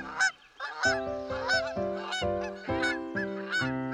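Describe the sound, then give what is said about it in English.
A flock of geese flying high overhead honks in a noisy, overlapping chorus, with loud, nasal calls repeating rapidly and continuously, and a steady droning tone running beneath them. “Once in the air came a flock noise where geese are the honks on high.”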